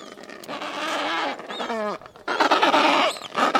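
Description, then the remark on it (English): An Adelie penguin colony in Antarctica fills the air with harsh, braying squawks that overlap continuously and loudly, with higher piping calls from the chicks and a brief lull near the middle. “That's a colony of Adelie penguins with their chicks.”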